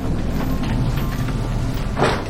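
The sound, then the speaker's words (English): A heavy barn door is slid open by a person searching a large barn full of cows with a flashlight, with a steady low rumbling grind ending in a brief louder scrape. No voices are heard. “Now, Hannah slides open a barn door.”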